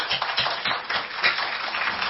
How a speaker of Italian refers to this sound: Diamo un piccolo applauso alle mamme.